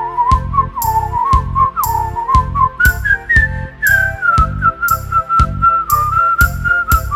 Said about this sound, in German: die Klasse ist musikalisch und wir pfeifen jetzt im Chor. Unsere Lehrer ist begeistert und pfeift uns etwas vor.